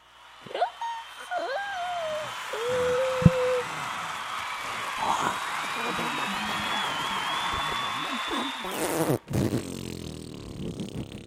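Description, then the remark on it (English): Several voices blow overlapping mouth-fart raspberries, buzzy and sustained with sliding pitches, over a loud, continuous jumble of vocal noise that cuts off abruptly near the end. “Let's do them all with our mouths.”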